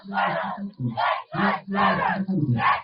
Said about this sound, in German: Die Leute strömen hier rein und skandieren.